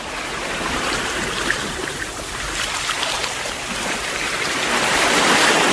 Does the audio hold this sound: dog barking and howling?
no